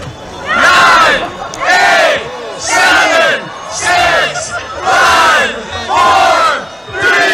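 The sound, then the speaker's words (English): A huge crowd yells and roars in repeated surging bursts, about seven loud waves of massed shouting with brief dips between, during what is presented as the biggest ever snowball fight. “what do you think was the biggest ever snowball fight? How many people were involved in it?”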